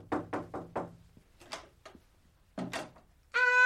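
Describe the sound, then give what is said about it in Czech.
Four quick, evenly spaced knocks rap on the door of a room, followed by a few softer thuds and rustles, then a brief bright tonal sound at the very end. “Běž k němu do pokoje. No, hezky zaklepej.”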